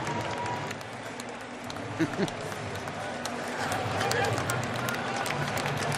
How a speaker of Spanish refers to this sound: Ahí está, esos son los aplausos del palco.